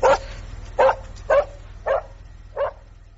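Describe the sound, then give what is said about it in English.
A small dog barks five times at a steady, unhurried pace, each bark short, with quiet gaps between them over a low background hum. “I have a dog.”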